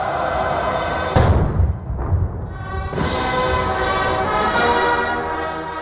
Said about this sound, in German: Tausende Soldaten in Reih und Glied, Kanonenschüsse fallen, die Nationalhymne erklingt, ein pompöses Spektakel jedes Jahr und dieses Jahr besonders, weil es der 80. Jahrestag ist.